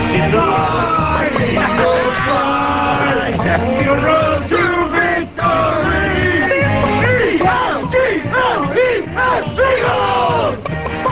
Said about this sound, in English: Everybody listen. Yodel. Sing along at home. Can you turn that up a little bit?